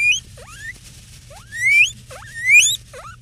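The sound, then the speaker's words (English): A guinea pig named Ginger Snaps at Deer Meadows Retirement Home in Philadelphia wheeks loudly when the closet where the refrigerator is gets opened, in a series of sharp, rising squeals, about four shrill calls repeating over a low background hum, with no talking. “And when she takes the keys to open the closet where the refrigerator is, Ginger Snaps goes, weep, weep, weep, weep, weep, weep, real loud.”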